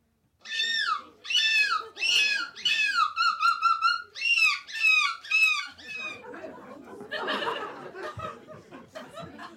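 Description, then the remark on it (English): A person imitates a seagull with a run of loud, shrill screeching calls in rapid bursts, then shifts into rougher, squawking cries, without any talking; the winning entry of the fifth annual seagull screeching contest in a seaside Belgian town. “And finally, a seaside Belgian town hosted its fifth annual seagull screeching contest. And here's this year's winner.”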